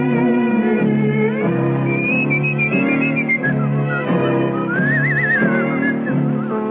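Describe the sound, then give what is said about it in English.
Someone whistles a wavering, vibrato-laden melody high above a full instrumental backing, the tune rising and falling steadily and clearly throughout, with no voices. “Whistle and dream your cares away.”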